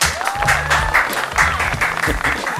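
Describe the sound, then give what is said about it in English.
A crowd at the Print Hut FM radio station applauding loudly and steadily, dense rapid clapping throughout, with a few high whistles rising over the noise. “We think that's a fantastic idea, Ian, and a huge round of applause from everyone here at Print Hut FM.”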